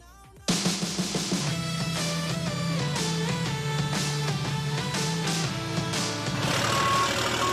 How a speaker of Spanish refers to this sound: Es la que van a vivir los pilotos y los aficionados dentro de 10 días en el Gran Premio de Europa, Campeonato de España, de esos camiones gigantes que corren como los Fórmula 1.